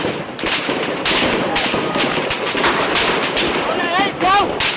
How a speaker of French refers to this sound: Des volées de balles en caoutchouc sont tirées dans la foule des chemises rouges, mais aussi des balles réelles, tirées la plupart du temps en l'air.